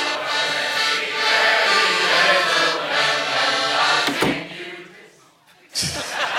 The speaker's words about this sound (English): These carol singers are too legit to quit.